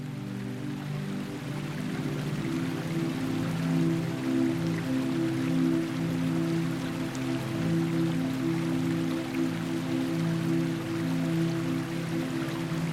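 Water trickles and splashes steadily over a shallow bowl into a wide basin in a misty garden, a continuous soft patter with a low resonant hum underneath, unbroken throughout.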